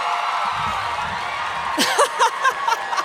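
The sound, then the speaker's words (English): A live crowd at a Sawbones show in Atlanta murmurs steadily, then scattered whoops and cheers break out near the end, bright voices rising above the broad wash of the audience. “I turned my chair around because I thought we'd connect more and you'd cheer for me louder.”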